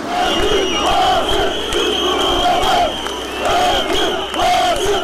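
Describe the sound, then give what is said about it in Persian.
Hundreds of angry protesters in Turkey, supporters of a large-circulation newspaper, shout and chant as police disperse them with tear gas and water cannon; voices rise in repeated waves over a constant dense roar of noise, loud throughout with no pause. “برای دومین روز پیهم پلیس ترکیه صدها معترض خشمگین و هوادار یک روزنامه پرتیراژ را با گاز اشکاور و آب پاشها پراکنده ساخت.”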